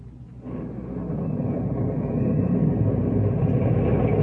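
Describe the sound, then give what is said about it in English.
A deep, continuous rumble of thunder from a storm that has lasted an hour rolls on without a break, swelling slightly louder after the first half second and staying heavy and low throughout, with no voices. “Well, it's been storming for an hour.”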